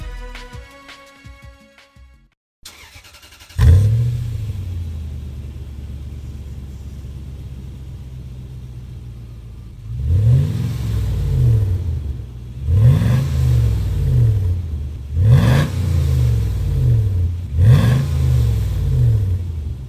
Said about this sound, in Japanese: ランドクルーザーシグノス GFUZ100W、 マフラーは 4WD バーテックス GD86。